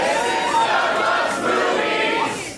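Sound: festival crowd cheering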